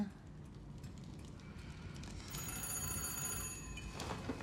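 A telephone bell rings in a single sustained, bright jangling burst lasting over a second, rising above a steady low rumbling background.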